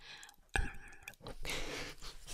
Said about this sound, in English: I swear there's a tingle with a straw and I can't remember what it was. I don't think it was blowing or swallowing, but that doesn't make sense. Is it flickering my tongue? Like, la-la-la-la-la? Let's try it.